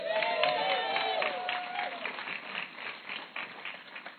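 An audience in a church claps steadily for several seconds for a man called forward for an exercise in honor, a dense crowd applause that stays fairly loud throughout before thinning slightly toward the end, with a brief sustained tone rising over it early on.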